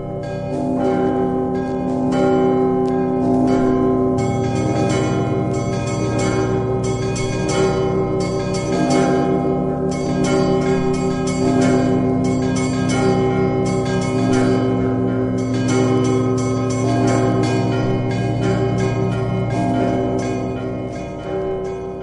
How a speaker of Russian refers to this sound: Действительно, сочетание трех больших колоколов и всех остальных, средних и мелких, было настолько удачно. Акустические особенности звонницы настолько потрясающие. Все колокола находятся под одним сводом, как бы звук аккумулируется